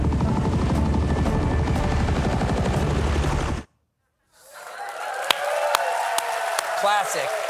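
A loud helicopter hovering over the middle of the ocean near a U.S. Navy warship thumps with steady rotor chop for several seconds, then cuts to a brief silence before a different noisy scene with sharp clicks and a rising whine.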